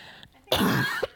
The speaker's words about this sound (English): All right, I'm going to warn everyone that I'm going to cough again. Sorry.